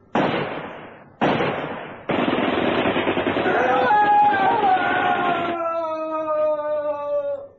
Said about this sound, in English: He saw a figure stop at the end of the bridge, raise a machine gun, and fire to burst.